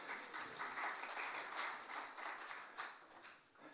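A crowd applauds steadily, many hands clapping in a dense, crackling wash that swells and eases slightly over several seconds without pausing.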